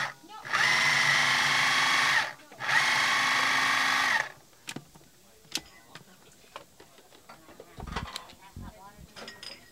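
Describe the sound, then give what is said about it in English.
A food processor motor whirs loudly in two bursts of about two seconds each as it chops heirloom tomatoes, followed by scattered clicks and clattering of the appliance being handled. “So I just chopped a bunch of beautiful heirloom tomatoes and put them in the food processor,”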